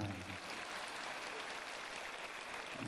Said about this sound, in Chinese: 说的响一点好不啦？你说的响，他们鼓掌鼓的响；你说的轻，他们鼓的轻。